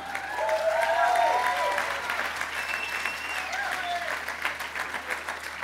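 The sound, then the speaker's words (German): An audience claps in a dense, steady burst of applause, welcoming a speaker who has just been introduced before his talk begins; the applause swells in the first second or two and then gradually thins, with some faint voices mixed in. “Es ist immer gefährlich zu klatschen, bevor man angefangen hat, aber ich danke euch, dass ihr was Gutes erwartet.”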